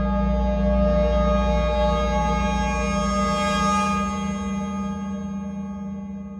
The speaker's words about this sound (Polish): Ale dlaczego zapisuje się dźwięki okrętu podwodnego? Otóż dlatego, że każdy statek zostawia po sobie charakterystyczny rodzaj dźwięku